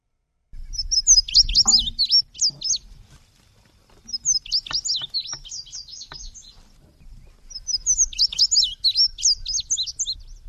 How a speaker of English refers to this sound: Let's hear from another bird now. This is recorded in Ohio. It's the indigo bunting.